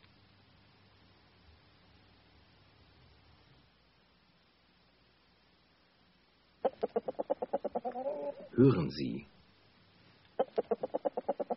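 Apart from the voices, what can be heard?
hen clucking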